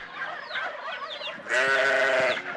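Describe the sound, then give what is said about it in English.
A sheep bleats loudly, a wavering, harmonic baa that swells in the second half, with fainter bleating calls just before it. “A sheep.”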